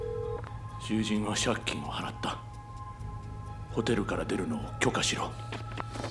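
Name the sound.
telephone number being dialed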